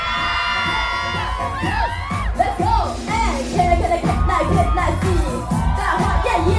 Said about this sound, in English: Let me hear you scream!